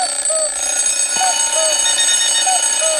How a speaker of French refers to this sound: C'est pour ça que le matin, on fait sonner un réveil. Un réveil, ça fait un bruit insupportable, ça hurle.